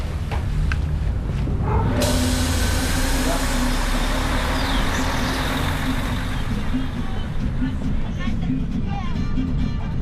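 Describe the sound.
A steady, loud rumble of a bus engine with constant road noise, heard from inside a moving bus in Esmeraldas on the way to the Chota valley, with a brighter hiss joining after a couple of seconds and faint voices in the background.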